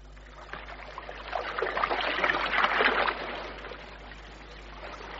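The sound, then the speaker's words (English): Water swishes and trickles as a punt is poled along a river, the splashing swelling in the middle before easing back to a soft, steady lapping. “You're going to take me punting on the river.”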